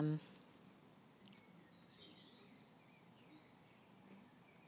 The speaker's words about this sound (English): I don't know if this is going to pick up the birds very well, because they're quite far away.